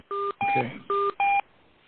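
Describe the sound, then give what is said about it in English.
Four quick telephone dialing beeps on a court hearing call, likely law clerks dialing in, in an even rhythm, each a steady two-tone chirp, sounding clearly over a faint background hiss with a brief rustle under the second one. “I hear some beeps. Should I wait?”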